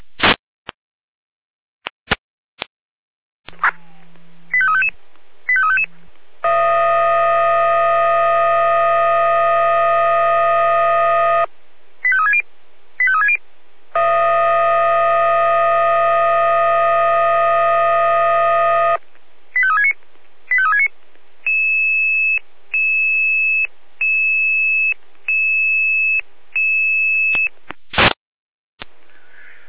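Fire brigade alerting tones: quick tone sequences and warbling chirps, two long, loud, steady siren blasts with pauses between, then a series of short, evenly spaced beeps. No one speaks.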